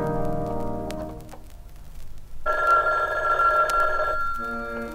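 A telephone rings with a bright, warbling electronic bell tone, a sustained burst midway through following softer tonal sounds, clear with no talking.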